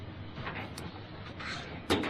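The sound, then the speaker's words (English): A chair scrapes and bumps across the floor, a rough shuffling noise with a sharper knock near the end. No one speaks. “I'm just going to drag a chair across.”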